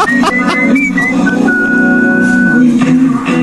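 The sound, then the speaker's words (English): A thin, high whistled melody moves through a few short notes, then holds one long steady pitch, layered over lower, fuller voiced tones that blend with it in harmony. “Look at you whistling the harmonies.”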